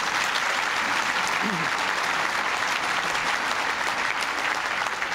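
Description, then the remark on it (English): Sustained applause from a large, enthusiastic crowd at a celebration thanking those who worked on the Goals 2000 Act, a dense, steady wash of clapping that fills the whole stretch at an even, fairly loud level with no pauses or talk over it. “The size and enthusiasm of this crowd goes to show how many different individuals, groups that have worked to make Goals 2000 Act a reality.”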